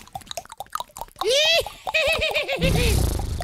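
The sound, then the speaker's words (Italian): A person imitates a horse's whinny, a loud, wavering neigh with rising and falling pitch that breaks into shaky, bouncing bursts, preceded by a few quieter clicks and mouth sounds. “Oh, facciamo un po' di cavallo. Vai, che è parecchio che non lo facciamo, vai.”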